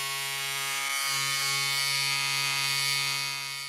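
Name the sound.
electric razor buzzing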